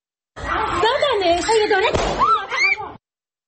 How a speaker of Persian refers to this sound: از کرمانشاه ویدیویی رسیده که تیراندازی به معترضین با سلاح کمری رو نشون میده و گزارش‌های هنوز تایید نشده حاکی از کشته شدن یک نفر در این تیراندازی هاست. صدای ویدیوی کوتاهی از این رخداد رو بشنویم.